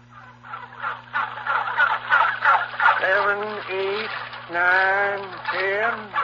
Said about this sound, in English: How do you keep one of these turkeys quiet? Well, you bought him from me. That's your problem now.